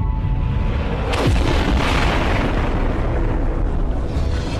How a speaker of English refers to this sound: A protoplanet, Theia, smashed into the infant Earth.